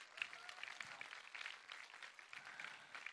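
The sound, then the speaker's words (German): An audience applauds the crew who set up the venue at 6 in the morning: a steady, dense wash of many hands clapping at once with a continuous crackling texture, fairly even in loudness throughout with no voices standing out. “Okay, lass uns denen mal einen Applaus geben.”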